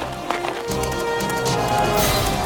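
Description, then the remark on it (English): Galloping horse hooves beat in a quick, steady rhythm, fairly loud, with a rushing noisy backdrop and no voices; a horse carrying two people, with the Norman knight Bois Guilbert escaping from a castle. “Then he sees a horse with two people on it.”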